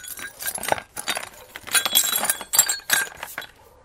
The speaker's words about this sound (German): Oh nein, das tut mir leid. Das Glas ist kaputt. Ich hab's nicht gesehen. Komm, ich mach die Scherben schnell weg.